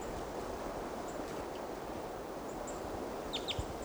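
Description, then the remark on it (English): A male type 2 bird right above a camp gives short, high type 2 chip calls over steady rushing water-like noise, a few faint ones early and a clearer cluster of two or three near the end. “Start recording about 8 o'clock now, and there's another type 2 male right above the camp. And he gave type 2 calls on the way in.”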